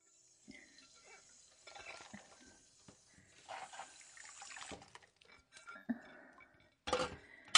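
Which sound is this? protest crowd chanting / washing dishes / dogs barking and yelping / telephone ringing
washing dishes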